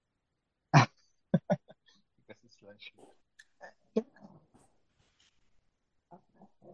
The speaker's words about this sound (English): I can hear your dog barking.